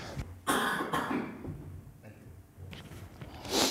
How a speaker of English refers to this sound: I must cough, pardon me.